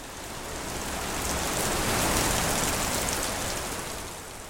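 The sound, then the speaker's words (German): Heavy tropical rain pours down steadily in Haiti at the start of the hurricane season, in a dense, hissing wash, swelling slightly in the middle and staying constant throughout, with no voices. “Es regnet, es gießt.”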